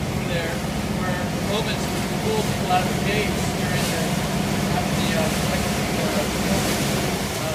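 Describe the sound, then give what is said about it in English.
A boat motor drones steadily and continuously on the Sea of Galilee, a low rumbling hum with water and wind noise, while faint indistinct voices murmur in the background. “Did you know that the boat that Jesus was on with his disciples had a motor?”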